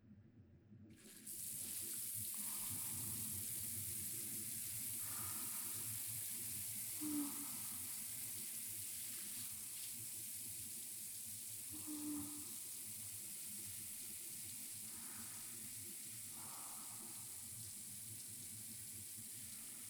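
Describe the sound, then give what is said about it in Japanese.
A shower sprays steadily as it is lightly run over hair to wet it before shampooing, a continuous hissing rush of water that starts abruptly and runs without a break, with faint splashes and shifts as the stream moves. “ではまずはシャワーを軽くかけていきますね。”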